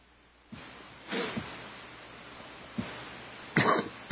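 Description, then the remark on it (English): Several harsh coughs and throat-clearing bursts break out in an otherwise quiet stretch, unevenly spaced, with a sharp double cough near the end. “I don't have a cough button.”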